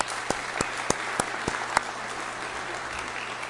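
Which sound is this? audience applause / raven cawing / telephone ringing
audience applause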